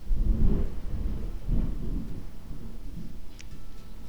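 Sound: thunder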